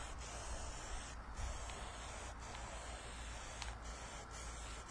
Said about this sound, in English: But then to finish up the map grids, all you got to do then is take your little template here and line it up then with some of the existing crosses and go ahead and just put another layer of spray paint all across it.